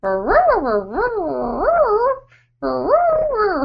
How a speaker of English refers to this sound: I would let you, but that dog will just be crying the whole time.